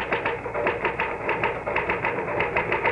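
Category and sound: machine, typewriter typing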